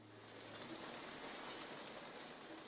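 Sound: rain falling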